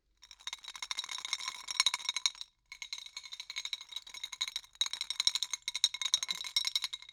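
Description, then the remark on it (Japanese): Ice cubes rattle and clink rapidly against a glass of carbonated soft drink, in three dense bursts separated by brief pauses, with a bright ringing tone and no voices. “氷がぶつかる音です。”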